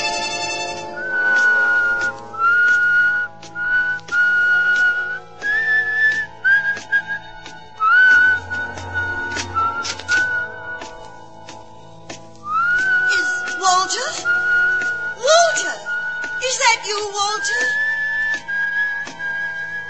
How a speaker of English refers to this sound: Remember my whistle, huh?